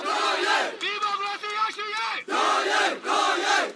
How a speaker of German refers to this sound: Zehntausende marschieren schon den 2. Tag in Folge durch Yangon, die größte Stadt Myanmars. Lang lebe Mutter Su, rufen sie, oder nieder mit der Militärdiktatur.